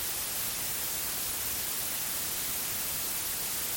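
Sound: white noise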